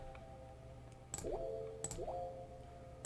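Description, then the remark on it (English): Soft water-droplet plinks with quick rising pitch fall at a slow, regular pace over a sustained musical chord, quiet and gentle within the beat; no one speaks. “I added like water droplets, extra soft sound.”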